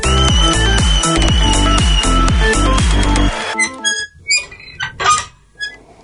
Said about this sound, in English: And there is the door squeaking as DT walks out on the show. To be fair, I think that door does actually squeak.